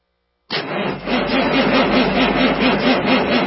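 A diesel engine starts up abruptly after a brief silence and settles into a loud, steady rumbling idle with a regular low chugging pulse, with no voices.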